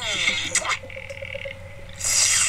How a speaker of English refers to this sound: They're slurping tea in case you're interested.